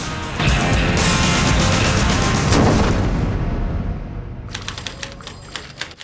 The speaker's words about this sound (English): Shaz is typing away when Chris walks over to her desk.